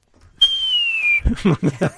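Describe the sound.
Someone vocally imitates a bottle rocket, lit by its wick and shooting up out of an old bottle: a thin, high whistled tone held for under a second, gliding slowly downward, then a quick run of breathy, popping bursts.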